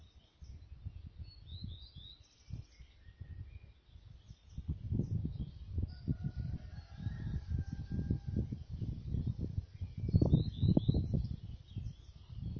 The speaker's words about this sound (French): Je vous laisse écouter les oiseaux encore quelques instants.